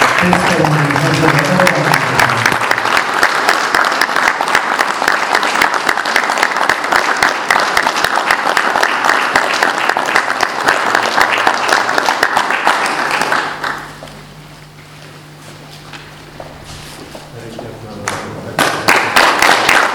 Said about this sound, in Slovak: a vás poprosím o jeden veľký potlesk pre týchto dvoch, ktorí s nami trávili každý víkend.